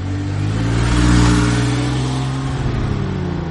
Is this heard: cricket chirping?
no